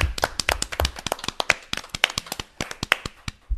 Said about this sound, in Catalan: Va, un aplaudiment, no?